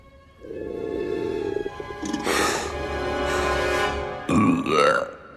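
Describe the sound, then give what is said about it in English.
A long, loud, deep burp echoes through an anthill, rumbling and stretching out with a hollow, reverberant echo, ending in a wobbling, squeaky tail as it fades. “burp echoes through the anthill and comes out of the top in a puff of dust.”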